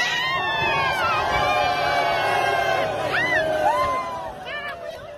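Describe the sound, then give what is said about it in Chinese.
A large crowd of Tibetan people lining the streets cheers and shouts for Xi Jinping, a dense wall of overlapping voices with higher calls rising above it, staying loud and steady before easing slightly near the end. “真够服了的，面对奴隶主，奴隶的小钻风竟然发出了铁链下的欢呼声。”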